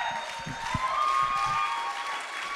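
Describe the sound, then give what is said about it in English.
An audience at a storytelling show applauds its storytellers in a dense, steady wash of clapping that holds at an even loudness throughout, with a thin sustained whistle or cheer riding faintly above it. “Can we get one more round of applause for all our storytellers?”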